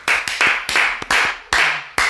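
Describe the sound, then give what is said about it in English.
A group claps loudly in uneven bursts, each sharp burst of applause trailing off briefly before the next, with no voices heard. “So sorry about the loud clapping for any of you that are in that group right now.”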